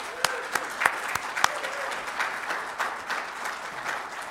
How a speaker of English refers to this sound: And so they're busy guys, and I really appreciate them. And if you could just give them a round of applause, that would be great.